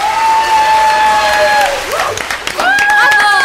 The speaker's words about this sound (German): Als der Applaus abklang und die Menge dem Ausgang zustrebte